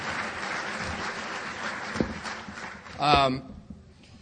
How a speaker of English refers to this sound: I just want to give them a round of applause for putting on a great convention so far.